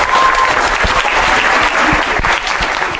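Steady, dense audience applause fills the whole stretch, a broad wash of many hands clapping at an even loudness with no voices on top.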